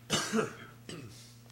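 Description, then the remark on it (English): A couple of sharp coughs in quick succession from a committee chair during a legislative committee hearing, the first louder with a raspy burst, followed by a softer second cough, over a faint steady hum. “I was coughing as you were wrapping up.”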